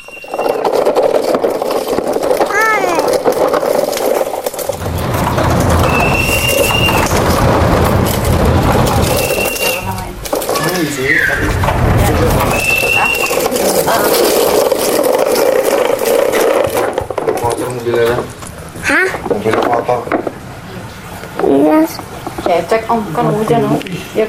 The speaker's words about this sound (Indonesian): Ini mobilnya nih, nggak bisa nyala. Nggak bisa nyala.